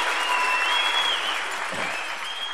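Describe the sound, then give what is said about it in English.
Steady, dense applause from a large audience, a continuous wash of clapping hands at fairly loud level with no voices standing out. “Well, I'm going to accept that compliment of that great applause”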